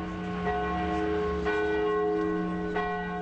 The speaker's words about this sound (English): The announcement of his death was made in an email message from a Vatican spokesman to journalists, and the word spread by the ringing of church bells throughout Rome, around the world, and in Poland in the Pope's hometown of Wadowice.